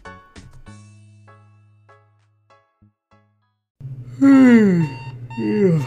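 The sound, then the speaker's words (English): A short electronic alarm clock chime rings at the start, its tone fading out with a few soft blips after it, then a loud voice starts talking. “Turn alarm off, please.”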